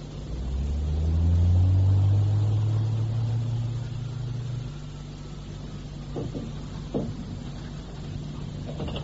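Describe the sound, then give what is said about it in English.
A lift in a concrete cube, with only one button and one stop, descends with a deep, steady motor rumble that swells and shifts in pitch early on, then settles into a low hum, followed by a few faint mechanical clunks near the end. “Well, lower me down. Only one button. Only one stop. Hang on to your tummies, gentlemen.”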